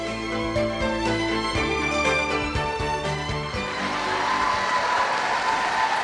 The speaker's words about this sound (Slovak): Takýmto búrlivým potleskom Svätému Otcovi odpovedali slovenskí pútnici na dnešnej generálnej audiencii.